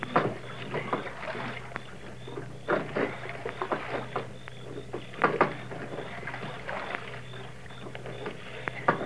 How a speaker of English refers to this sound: Now they've taken a boat and gone for a row on Lake Candlewood. Listen.